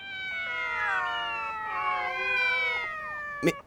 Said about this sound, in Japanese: そりゃ真っ昼間から公園に猫が10匹以上集合してりゃな。